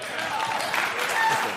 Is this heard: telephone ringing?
no